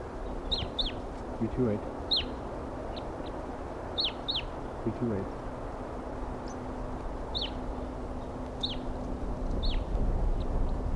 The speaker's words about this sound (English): Pair of wild birds here. Two birds. One's a male and one's a female. And they're together up in a treetop, perched right next to one another.